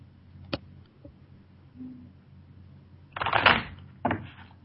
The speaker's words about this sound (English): Shuffle here. Is there a general number of you shuffling, or do you just go till you know it's enough? You know, I used to think you needed to do it for a certain amount of time, and I found it doesn't make any difference at all.